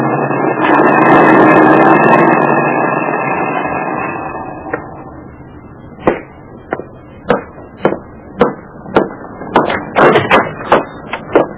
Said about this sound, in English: flung her in the back seat of the car I'd commandeered, and drove her home.